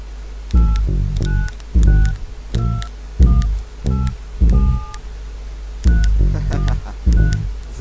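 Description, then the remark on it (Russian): A phone number is punched in on a keypad: about a dozen short touch-tone beeps in quick, uneven bursts, each a clear dual-pitched tone, loud and with no talking. “Слышь, не зевай, номер пиши давай. Готов? Лови.”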